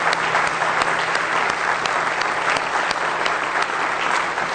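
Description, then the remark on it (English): A church audience claps steadily for several seconds in praise of the Lord during a morning service, a dense, continuous wash of hand claps, with no talking over it. “Let's give the Lord a real good hand clap of praise this morning.”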